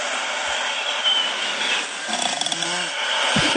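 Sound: snoring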